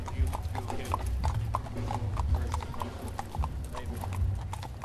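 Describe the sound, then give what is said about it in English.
Police horses' hooves clip-clop on a hard surface in pouring rain, in a steady, brisk rhythm of sharp knocks, repeating over a constant low rumble of background noise. “I lose count of the number of people who smile or wave or stop and come to pat the horses and ask questions”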